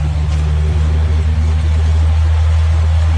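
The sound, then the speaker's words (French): A Cessna 206 propeller aircraft engine, on a plane a little over twenty years old, runs steadily after starting, a loud, even low drone with a throbbing rumble that holds constant throughout, with no voices. “Il marche impeccable, hein. Quart de tour. Quart d'hélice, il est parti.”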